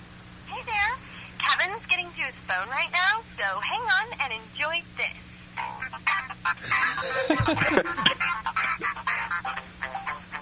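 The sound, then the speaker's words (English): Tinny, band-limited music plays through a phone line as ringback, with warbling, sliding melodic tones running continuously at moderate loudness for the whole stretch and a low steady hum underneath. “It's got porno music on his phone.”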